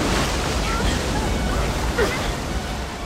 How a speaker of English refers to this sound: The raft suddenly slid right off a towering cliff, falling hundreds of feet into a raging mountain river.